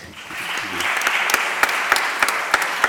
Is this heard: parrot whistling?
no